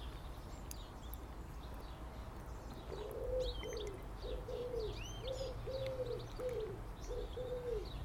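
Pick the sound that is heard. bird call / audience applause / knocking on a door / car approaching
bird call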